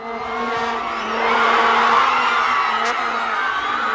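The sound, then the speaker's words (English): A loud, sustained crowd roar in a square in Johannesburg, cheering Sipiwe Shabalala's 55th-minute goal for South Africa against Mexico, swelling midway and holding steady, with droning horn tones blaring through the mass of voices for the full four seconds. “And the biggest cheer was when Sipiwe Shabalala scored that goal for South Africa in the 55th minute.”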